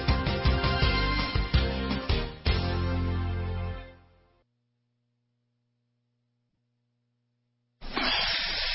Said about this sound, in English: Ah, the copperhead snake. It hisses before attacking. But that's not a copperhead. That's the Sullivan's RV freshwater tank overflowing into their black one, which is backing into their vent pipe, making for a very different kind of attack.